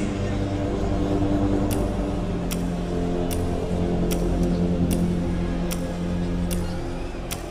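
A clock ticks steadily, about nine evenly spaced crisp ticks, set against a constant low, droning hum that fills the background.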